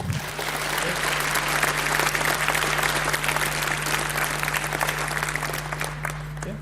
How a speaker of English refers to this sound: So give a warm hand of applause to Aurélien and Mervé.